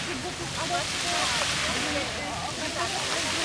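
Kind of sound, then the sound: nature, rushing water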